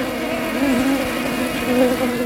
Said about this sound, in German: Da summen Bienen laut umeinander. Sie hören sie jetzt gut. Und jetzt summen sie immer noch. Aber nicht mehr so laut oder vielleicht gar nicht mehr.